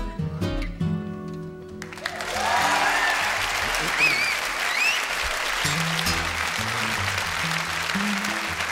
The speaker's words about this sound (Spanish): Madre mía, estos aplausos no son para nosotras.